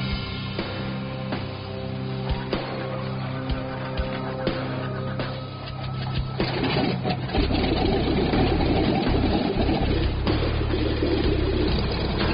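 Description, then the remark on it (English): A vintage piston aircraft engine, on a plane built before the jet age for World War II, runs steadily with a deep, rumbling drone, growing rougher and louder about halfway through as if revving up. No one speaks. “Powered by piston-driven engines, these planes were built before the jet age.”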